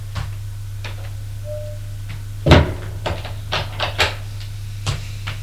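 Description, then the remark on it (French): A woman opens a door off a dark upstairs corridor with a loud clunk of the latch, followed by a handful of small knocks and creaks as it swings, over a steady low hum. “Elle ouvre la porte et fait entrer Cliff.”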